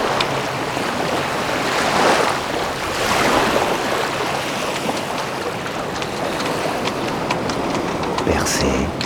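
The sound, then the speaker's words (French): Heavy ocean swell rolls in with waves breaking in broad, roaring surges, a continuous loud wash of surf that swells and recedes. “De la forte houle.”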